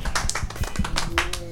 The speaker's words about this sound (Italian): Bentornati a Radio Dinamo. Applauso.